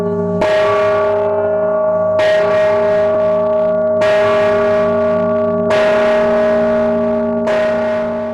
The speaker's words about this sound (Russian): И вот уже сегодня в микрорайоне перспективной слышны первые прекрасные звуки этого колокола.